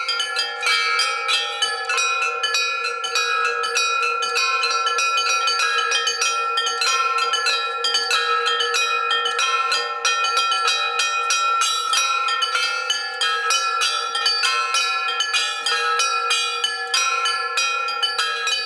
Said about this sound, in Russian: Затем, к восторгу присутствующих, праздничную мелодию во все колокола великолепно прозвонил посвященный звонарь